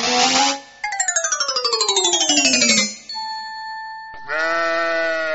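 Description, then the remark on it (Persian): Several loud sheep bleats, including a long, quavering bleat that slides downward in pitch, with a brief steady tone between calls and no one speaking. The sheep was bought to be sacrificed for Eid and is waiting to be slaughtered. “این 12 بجه شد، آل گوسفند چه وقت میکشی؟”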